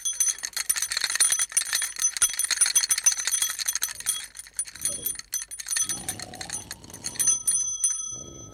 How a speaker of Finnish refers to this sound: Seuraava lahja on isolle julmalle karhulle. Fui kauheeta, soitaan kelloa.